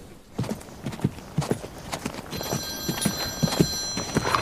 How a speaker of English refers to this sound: It's only my phone.